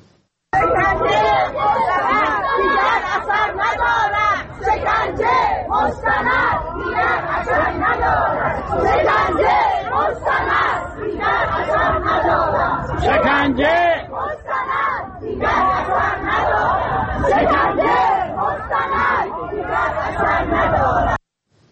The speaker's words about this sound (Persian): در اینجا از تجمع گروهی از بازنشستگان در دوم بهمن ماه فیلمی رو می‌بینیم که به وضعیت معیشتی و اقتصادیشون معترض بودن و جلوی وزارت کار با شعار شکنجه مستند دیگر اثر ندارد به پخش اعترافات تلویزیونی فعالان سیاسی و مدنی اعتراض کردند.